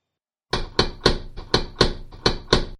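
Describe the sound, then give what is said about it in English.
Loud, heavy banging on a door at 3 a.m., about nine hard thuds in quick, slightly uneven succession, with no voices. “when Colin is woken up by a loud bang on the door. The banging keeps getting worse until Colin's steady enough to get on his feet and open the door.”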